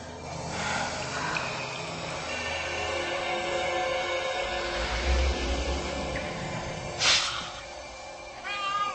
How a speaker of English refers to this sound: What is it? I think it's a cat.